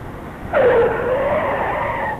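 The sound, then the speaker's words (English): A car's tires screech in a long, loud skid that starts abruptly and holds a shrill, wavering whine for nearly two seconds over a low engine rumble. No one speaks. “Will you ass-friends be careful with my car?”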